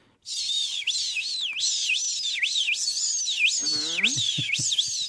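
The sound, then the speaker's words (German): A person imitates the shrill, screeching calls of common swifts in a continuous run of high, wavering, rising-and-falling squeals, loud throughout, with a brief lower throaty rasp near the end. “das wird jetzt so in den nächsten Wochen bei uns auch wieder anfangen, dass die sich Verfolgungsjagden durch die Straßenschluchten liefern und dann bei ganz, ganz laut schreien.”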